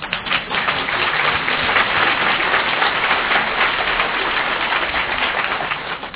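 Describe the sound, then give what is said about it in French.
A crowd applauds a doctor who is about to speak, clapping steadily for about six seconds, a dense, even patter of many hands with no voices over it. “Et on peut l'applaudir, parce que je crois qu'il le mérite.”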